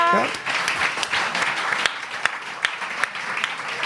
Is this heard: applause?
yes